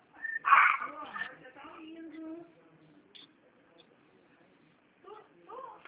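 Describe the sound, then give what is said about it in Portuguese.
A small Yorkshire terrier lets out a few sharp, high-pitched yips, then whines and whimpers in thin, wavering tones, with a couple more short whimpers near the end. Fairly quiet. “Tá latindo aí, bravo?”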